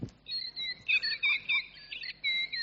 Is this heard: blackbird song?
yes